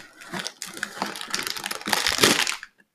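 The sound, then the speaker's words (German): Crackly rustling of a thick, 90-gram crinkly plastic candy bag from an Advent calendar being torn open, a dense burst of crinkles lasting a few seconds and growing louder before it stops abruptly. “Das sind ja echt da so handelsübliche dicke Tüten.”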